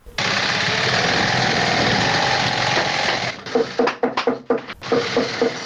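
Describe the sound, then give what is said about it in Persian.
Loud, steady mechanical whir of sewing machines at a shoe factory in Kabul, Afghanistan, then choppy bursts with rhythmic clattering and sharp hammer knocks as workers hammer and run the sewing machines. “یکی از کارخانه های تولید بود در شهر کابل که کارگران آن با دلسردی تمام و نامید از یک آینده روشن چکش می زنند و چرخ ماشین های بودوزی را به صدا در می آورند.”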